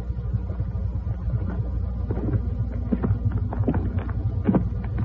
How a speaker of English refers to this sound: Somebody was coming up the hill. The donkey listened to the footsteps, crunching a little on the frosty grass.